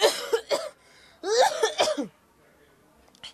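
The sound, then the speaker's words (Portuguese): Someone coughs: a couple of quick harsh coughs, a short pause, then a longer, rougher fit of coughing, with quiet afterward. “Por isso é que estás a tossir e a deitar perdigotes aqui por todo lado.”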